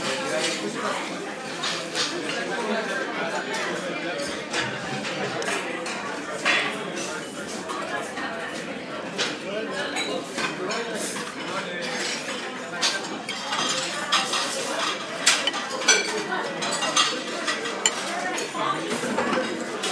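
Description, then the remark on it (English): Constant clatter and clash of dishes and cutlery at the café Les Deux Majeaux in Paris, sharp clinks and knocks piling up irregularly over a steady murmur of indistinct voices, busy and fairly loud throughout. “All that noise that you can hear in the background is the clatter and clash of the café Les Deux Majeaux.”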